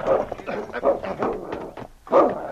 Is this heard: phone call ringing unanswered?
no